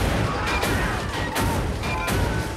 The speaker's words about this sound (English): The vault door is blown off its hinges, and a number of soldiers get out of the tank.